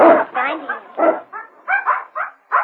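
A puppy barks and yips in a quick, uneven run of about eight short, high-pitched bursts, fairly loud, with brief gaps between them.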